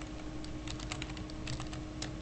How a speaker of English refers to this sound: I like the clickety-clack of the keyboard appearing on the show.